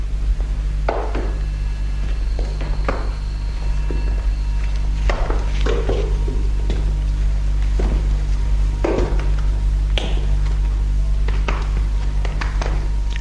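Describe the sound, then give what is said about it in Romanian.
Footsteps climb a wooden staircase: nine knocking treads at a steady, unhurried pace, over a constant low background hum. “Urcăm nouă trepte.”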